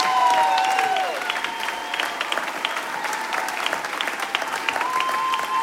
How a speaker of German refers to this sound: Fetten Applaus